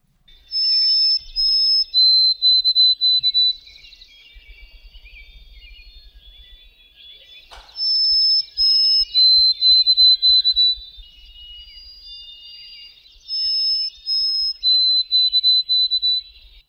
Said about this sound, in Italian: Questa è la Zonotrichia albicollis, insomma è un uccello.